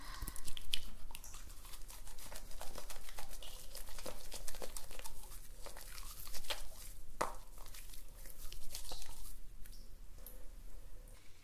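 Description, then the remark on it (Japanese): Shampoo, lathered in the palms, being scrubbed into a man's hair: a steady, wet, squishy crackle with irregular sharper crinkles and pops, moderately loud throughout and with no voices. “手のひらでしっかり泡立てて、”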